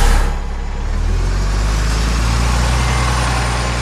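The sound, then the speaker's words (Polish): A city bus pulls away, its engine dipping briefly before revving into a loud, steady rumble with a low droning hum. No one speaks. “To lubię, jak ruszył.”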